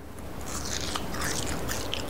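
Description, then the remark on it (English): Steady crunching and chewing of crisp deep-fried parsley, with brittle crackles and bites repeating for a couple of seconds and no talking. “This is that deep fried parsley.”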